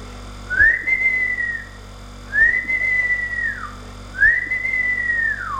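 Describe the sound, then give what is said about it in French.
Three long, steady whistles in a row, each rising to a held note and then sliding down, evenly spaced with short pauses between them, clear with no talking. “L'homme vert siffla trois fois.”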